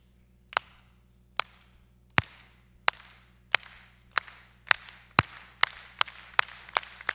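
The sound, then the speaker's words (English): A single pair of hands claps about a dozen sharp, crisp times, starting slow and steadily speeding up into a quicker rhythm, with no talking underneath. “You can go to a ball game and you know they have that clap thing where you start going.”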